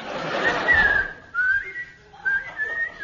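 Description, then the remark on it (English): A whistle is blown in three shrill bursts, each gliding slightly in pitch, the first over a rushing, breathy noise. It's clear, with no talking. “Whistle, the whistle.”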